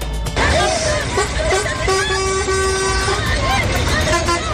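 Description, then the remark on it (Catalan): United States Army trucks rumble past in a dense, noisy crowd scene as a horn honks several times, including one long blast, while women shout and cry out, a man lies on the ground to stop them and people desperately throw things. “Camions de l'exèrcit dels Estats Units, un home que s'estira a terra perquè no passin, dones que criden i aquest llançament de coses desesperats.”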